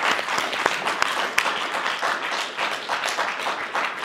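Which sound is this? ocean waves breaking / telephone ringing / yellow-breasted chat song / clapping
clapping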